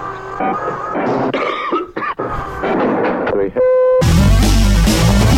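A few sharp coughs break through a dense, busy recording, followed by a steady electronic tone and then a sudden loud, roaring wash of sound.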